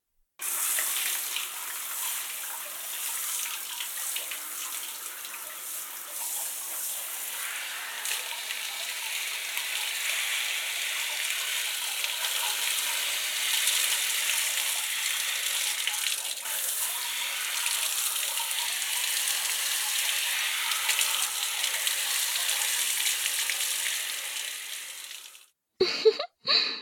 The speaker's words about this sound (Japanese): 一度シャワーで流してしまいますね。